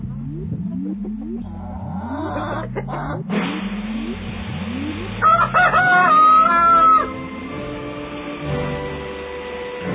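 A rooster crowing sound effect: the rooster crows once midway, a loud, drawn-out call rising above a busy background of repeated low, rising whirring sounds that run through the whole stretch. No one speaks.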